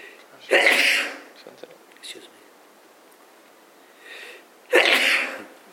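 Two loud sneezes a few seconds apart, each a sharp, breathy burst, with softer sniffs or intakes of breath between them. No one speaks.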